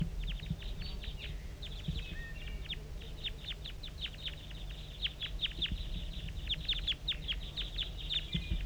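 Decoy birds calling in a dense, steady stream of short, high chirping notes, many overlapping in quick rhythmic bursts, over a low constant rumble with no one talking.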